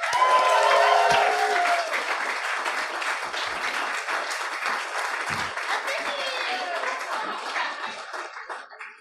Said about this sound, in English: But if you're all, please put your hands together for the ….